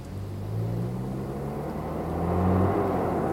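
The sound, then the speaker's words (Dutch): A jeep engine, with a man at the wheel, drones steadily as the jeep approaches, its low pitch rising as it revs and grows gradually louder. No voices are heard. “We kunnen in elk geval die jeep goed gebruiken.”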